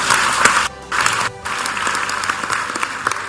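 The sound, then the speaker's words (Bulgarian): A crowd applauds for MEP Asim Ademov, a longtime teacher, with dense, steady clapping that briefly drops out twice before resuming at full strength, loud and continuous with no voices over it. “Аплодисменти за Асим Адемов.”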